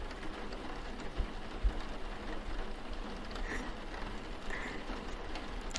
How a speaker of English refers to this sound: just listen to me. The rain, the sounds that you're making.